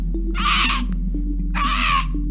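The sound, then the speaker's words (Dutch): A small black bird at the window of a small guesthouse gives two harsh, shrill screeching calls about a second apart, fairly loud, over a low steady background hum. “Ze loopt naar het raam en hoort het geluid opnieuw. Dan verschijnt er een kleine zwarte vogel in het kozijn.”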